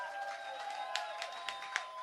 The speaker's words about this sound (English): So before we go any further, can we give a massive round of applause to Sound and Lights, please? To DJ, please.